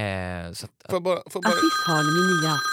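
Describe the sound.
A phone call tone rings out, a steady electronic ring followed by a connection click, and then a voice comes on the line, talking over a faint sustained tone.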